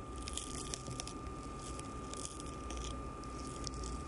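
Roman snails smacking as they eat: a steady stream of tiny wet clicks and squishy crunches, quiet but continuous, with a faint constant hum underneath and no voices.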